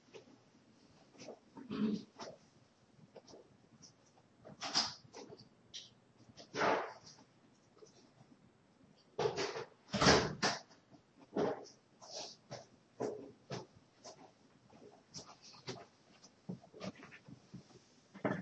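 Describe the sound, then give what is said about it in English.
A female dog whines and cries in short, repeated bursts, some louder and sharper than others, wanting to go outside, with no one talking over it. “I have a dog crying. She wants very much to go outside.”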